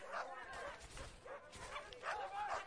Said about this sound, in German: Aber das klingt ja nach einer ganzen Hundemeute. Ja, und sie sind hinter einem Mann her.